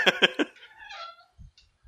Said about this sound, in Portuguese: Então, ele não fechou porque essa porta faz barulho, só que se deixar ela aberta, não.